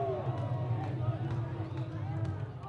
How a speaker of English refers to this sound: And now there is a new life and energy in this crowd. Crowd 10 times louder than we've heard it so far tonight.